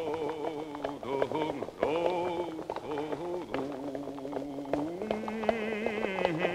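Horse hooves patter at a hurried, uneven pace as a horse ridden by Lukashka stumbles or catches on the grass and hurries on across a quiet, overcast, dry steppe; sharp thuds scattered across a steady, droning musical tone that runs underneath throughout. No one speaks.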